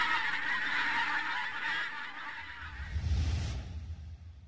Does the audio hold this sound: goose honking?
yes